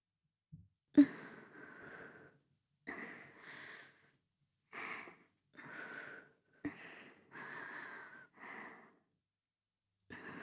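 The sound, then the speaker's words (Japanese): Heavy, breathy exhales and inhales very close to the microphone, breathed into the listener's ear, about eight or nine in a steady rhythm with short pauses between, soft but intimate, with no talking. “しばらくそのまま、吐息を聞かせてほしい？”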